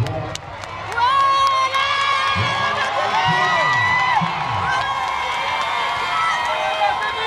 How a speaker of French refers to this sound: Et je vous laisse vivre en direct les acclamations du public.